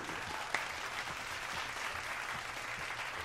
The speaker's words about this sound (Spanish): Aplausos para esta señora.